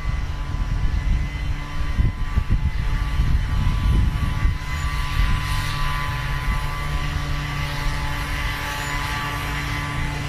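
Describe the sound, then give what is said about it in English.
A leaf blower, positioned to the listener's left, runs steadily, giving a loud, continuous droning roar with a buzzing engine hum underneath and slight wavering in the first few seconds. No one speaks. “The leaf blower should now be on your left.”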